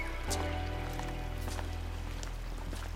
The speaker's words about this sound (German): Das war aber eigentlich schon gestern und heute regnet es nur noch.